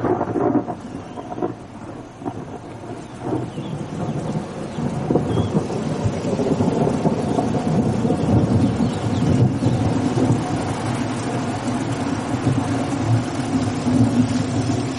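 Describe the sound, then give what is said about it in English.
Steady, heavy rain hisses throughout an electric storm while deep thunder rumbles build and roll beneath it, swelling louder toward the middle and continuing without pause. No voices. “When the heat gets to the point when you think everything's going to break up or you're going to rip the ears off the next guy that even looks at you, the thunder comes. Electric storms. And the rain.”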